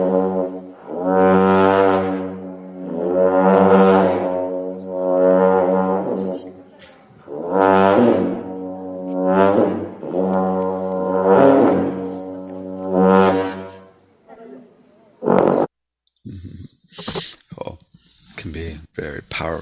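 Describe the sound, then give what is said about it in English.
A ten-foot Tibetan horn blows a series of deep, droning blasts, each rising and fading in loudness, about six in a row, followed by a few short, choppy sounds at the end. “Check out this Tibetan horn. 10-foot horns, really good.”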